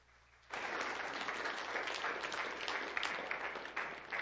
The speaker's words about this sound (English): When we clap for each other, we're really saying, thank you, Lord. Thank you, Lord. And so when we clap, we're giving God glory.